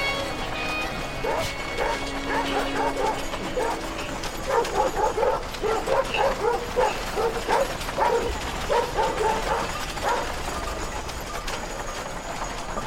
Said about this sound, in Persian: یه گله گوسفند تو جاده است. یه گاری از کنار گله گوسفند عبور میکنه. سگا میدوئن دنبال گاری.